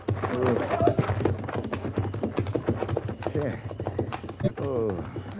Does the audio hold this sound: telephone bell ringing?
no